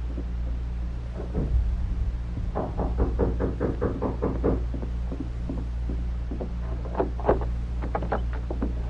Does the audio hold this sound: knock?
yes